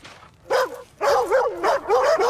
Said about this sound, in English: He approaches the team of black and white husky sled dogs who are leashed to a picket line and post.